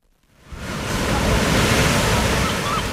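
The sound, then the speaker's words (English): Ocean surf rushes onto a beach, a broad roar of breaking waves swelling in quickly after a brief quiet moment and holding steady and loud, with some wind noise mixed in. “Summertime brings trips to the beach.”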